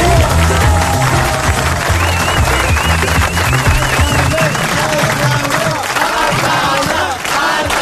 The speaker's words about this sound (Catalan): Exacte, sí, sí, mira, deixa'm, jo el celebraré, però amb doble aplaudiment. Per fi s'acaba aquest punyetero any.